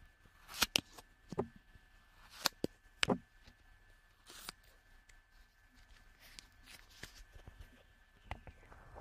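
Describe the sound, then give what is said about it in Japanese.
Crisp snips of scissors cutting through clay, several irregular cuts with faint rustling and small handling noises in between, quiet and intimate with no talking. “じゃあ、粘土を切るの？スライムを切るの？粘土を切るの？じゃあどっちも切る。”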